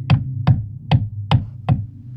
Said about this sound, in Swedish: Flera av personalen har hört att det låter som om någon hamrar i verkstaden om kvällarna, fastän alla har gått hem och lamporna är släckta.